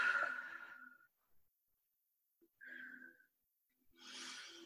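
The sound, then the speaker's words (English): Audible deep breathing, in through the nose and out through the mouth: a long airy exhale, a pause, then another breath and a fresh inhale beginning, soft and unhurried with silence between. “taking a big deep breath in through your nose, out through your mouth”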